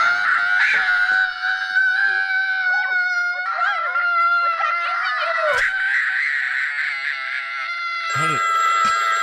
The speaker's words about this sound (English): Here's a horrible kid scream.